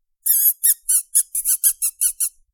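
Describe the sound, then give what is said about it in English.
A person makes a series of about ten short, high-pitched whistling squeals in quick succession, a call used to get a female animal that has caught mice in the house to come over, said to sound like a mouse. The squeals are loud and stand alone, with no talking. “She does not respond to her name, but will respond to me when I make a high-pitched, whistling, squealing noise when I try to call her over.”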